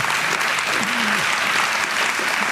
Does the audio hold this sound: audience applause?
yes